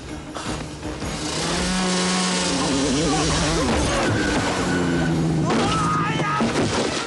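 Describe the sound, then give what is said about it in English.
A loud engine of an enemy snowmobile flying over an edge whines and revs continuously, its buzzing pitch rising and falling as it roars along, with rough mechanical clatter mixed in. “An enemy snowmobile flies over the edge.”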